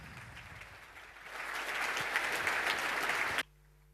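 Audience applause builds over the first second and a half into a steady, dense clatter of many hands clapping, then cuts off abruptly, leaving near silence.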